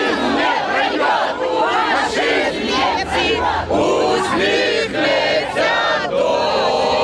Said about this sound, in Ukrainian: В цей час патріотично налаштовані активісти та учасники полку перемоги влаштували своєрідне співоче лазунгове змагання.